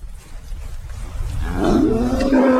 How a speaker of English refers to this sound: I'm in the Bernese Mittelland, which is just north of Bern in Switzerland. And that's a cow.